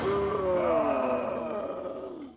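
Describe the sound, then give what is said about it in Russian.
Several pirates let out a loud, drawn-out "ooh" of astonishment together on seeing their leader take off his helmet and then his glasses, their voices overlapping and sliding downward in pitch before trailing off after a couple of seconds. “Это снова ахнули пираты, увидев, что их предводитель снял сначала свой шлем, а потом очки, и челюсти у них опять отвисли, но уже в другую сторону.”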